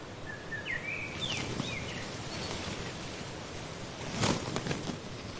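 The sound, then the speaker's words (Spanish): Strong wind roars and buffets steadily outdoors at the Breche reservoir, on a walk from Betanzos with rain threatening. A few brief bird chirps come early on and a louder gusting rustle near the end. No one speaks. “Hoy hace un viento disparatado.”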